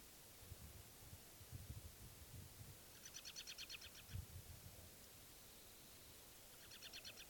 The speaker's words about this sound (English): That was the bird.